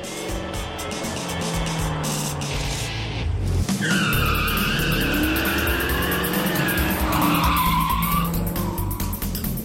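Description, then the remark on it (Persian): A Challenger SRT sports car is driven hard in sport mode, its engine revving steadily while tires squeal in long, wavering shrieks through the second half, with no talking. “اگر میخواهید رانندگی با کارایی محکمتری داشته باشین، ماشین رو در حالت اسپورت راه بیندازین.”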